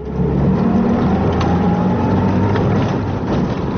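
A jeep driven by field guard Barnabaš Peter Heredi on a border patrol suddenly accelerates. Its engine roars, a loud, continuous low rumble with a faint whine riding above it, with no voices.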